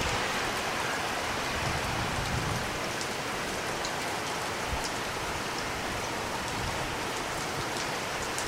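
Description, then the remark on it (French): Steady rain falls for the whole stretch, a dense, even hiss with scattered drops pattering on a surface. No voices, and the downpour keeps the same level throughout. “Il pleut toujours.”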